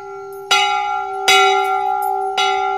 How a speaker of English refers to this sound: That's right. It was the rope of the bell. The big brass bell the townspeople were supposed to ring when they felt they'd been wronged. The bell that had never been rung before. At the sound of the first ring, the townspeople woke with a start.